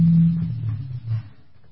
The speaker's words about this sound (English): I love it when high-performance cars ride past the studio. It's just stupendous.